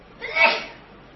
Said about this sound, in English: Bless you.